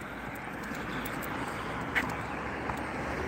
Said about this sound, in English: Gotta wait for traffic here. Gotta be safe.